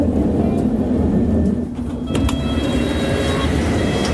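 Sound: london Underground train running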